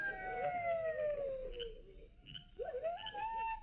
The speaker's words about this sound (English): I don't hear nothing except them coyotes howling.